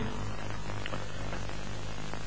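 A cat purring steadily and close up, a continuous low rumbling hum with a soft, breathy texture that holds evenly throughout without pauses or voices.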